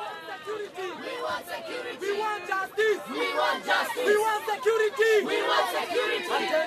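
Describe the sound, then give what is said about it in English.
A dense crowd of many voices yells and chants over one another in loud, overlapping bursts, an angry, continuous roar of shouting with no single voice standing out, at a Progressive Party political rally. “Mukaraba, the crowd doesn't seem to be so friendly.”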